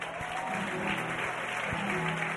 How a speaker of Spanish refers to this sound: entiendo que muchísima gente, por el sonido de los aplausos y todo el mundo disfrutando, entiendo que tú también, ¿no?